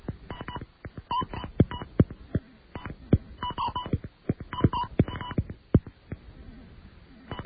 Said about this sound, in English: This company is called Cable and Wireless, or TDX. It's always possible that one of these companies will allow you to make a call. All right, authorization code. And the phone number.